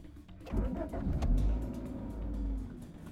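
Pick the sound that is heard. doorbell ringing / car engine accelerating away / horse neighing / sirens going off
car engine accelerating away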